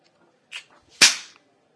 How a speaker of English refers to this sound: I'm sorry, I shouldn't have slapped you, but I'm your teacher.